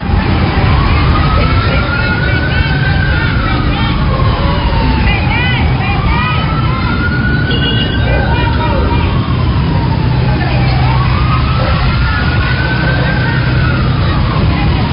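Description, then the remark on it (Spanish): Busy street ambience in Cali: a loud, steady wash of crowd chatter and traffic rumble, with a siren wailing in slow rising-and-falling sweeps about every few seconds above the din. “Este es el sonido ambiente de lo que ocurre en una de las calles de Cali”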